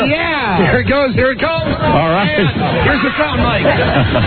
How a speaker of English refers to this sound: This is the last chance now for you hungry animals to get some money. The crowd scrambled.